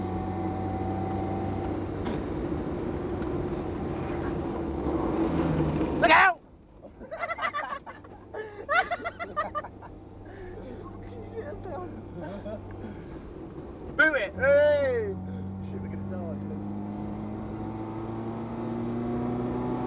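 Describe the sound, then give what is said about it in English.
A steady, low, loud engine drone runs throughout, briefly dipping in the middle while voices talk over it before the rumble returns at full strength. “There's probably loads of noise in the engine on there.”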